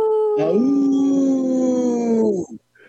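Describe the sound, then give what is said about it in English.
A single long wolf howl holds a steady, slightly falling tone with rich harmonics for about two seconds, loud and unaccompanied, then breaks off sharply at the end. “should have prepped you for the howl.”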